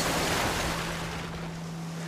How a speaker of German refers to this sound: Sonntagmorgen 16:30 am Hamburger Fischmarkt. Wo sonst Frühaufsteher und Wachgebliebene an den Fischbuden um die Wette grölen, geht nichts mehr. Land unter. Wellen rollen gegen die Hauswände, zerstörerisch.